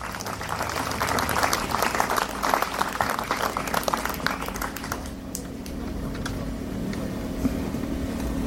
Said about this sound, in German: Deshalb ist großen Applaus für die Mitglieder der Songgruppe, trotz alledem.